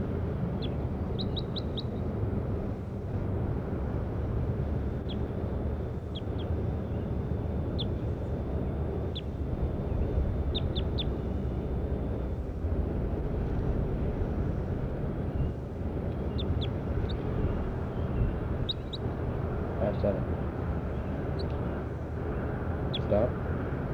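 bird calls

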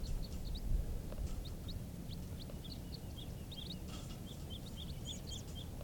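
birds calling

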